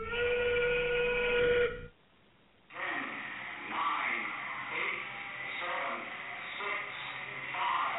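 A factory steam whistle blows loud and steady for about two seconds, cuts off briefly, then continues amid busy background noise with faint voices underneath.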